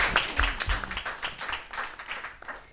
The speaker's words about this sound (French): Ouh, c'est gagné, 23 points, on les applaudit fort.